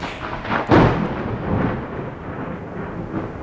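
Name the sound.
thunder and lightning strikes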